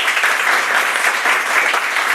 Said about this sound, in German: Begrüße bitte mit einem herzlichen Applaus